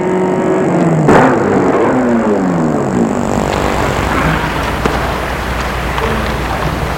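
A car engine drops steadily in pitch as the vehicle slows and pulls to a stop in front of an old three-story building, then settles into a low, steady idle rumble. No one speaks.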